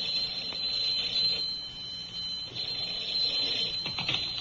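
telephone ringing

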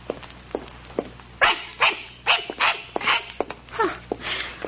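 small dog barking

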